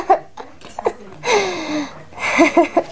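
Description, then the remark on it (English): A loud, harsh cough: a few short throaty bursts, then two longer raspy, wheezy hacking fits with a strained vocal edge, no speech. “That's a loud cough.”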